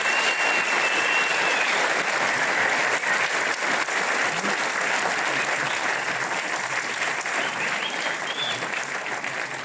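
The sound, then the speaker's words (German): Thunderous live audience applause at the FZW in Dortmund fills the whole stretch, a dense, steady roar of many hands clapping at full volume, with a few faint whistles rising above it and easing slightly toward the end. “Und damit mit einem donnernden Applaus hier heute aus dem FZW, live in Dortmund, der Podcast von Fußball MML.”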